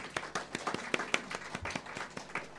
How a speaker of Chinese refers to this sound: 今天的主题是圣乐崇拜，我想先用掌声欢迎今天嘉宾讲员